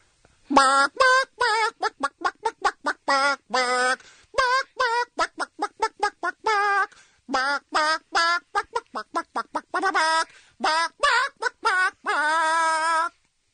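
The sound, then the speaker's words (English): A caller from Santa Clarita on the Kevin and Bean radio show clucks out a song's melody like a chicken, a steady stream of short, punchy clucks in rhythmic bursts with brief pauses, loud, ending on a longer held cluck. “Clucking the hits is what's going on.”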